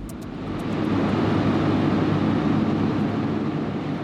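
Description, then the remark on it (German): A steady, loud mechanical roar of two hydroelectric turbines at the Bassen power plant in the canton of Uri, Switzerland, run by SBB. A deep droning hum sits under a broad rush of water shooting through a pipe over 2 metres thick, unchanging for the whole stretch after a quick fade-in. “Das Wasser schießt durch eine über 2 Meter dicke Röhre und treibt 2 Turbinen an.”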